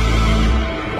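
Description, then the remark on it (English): A cow moos once, a loud, low, drawn-out call with a rich buzzing tone, clear, fading off at the end of a brief moment. “This is the sound of a happy vintage cash cow customer.”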